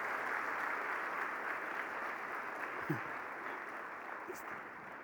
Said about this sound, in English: Let's keep clapping until she gets here.